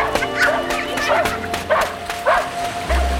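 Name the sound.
dog barking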